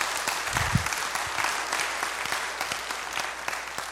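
An audience claps steadily for a few seconds for the model of a demonstration during a sermon: a dense, sustained patter of many hands at moderate volume with no voices over it.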